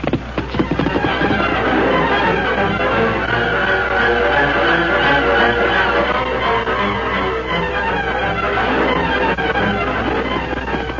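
The great horse Silver gallops hard and fast, its drumming hoofbeats loud and continuous for about eleven seconds within a dense, rumbling wash of sound, with no voices.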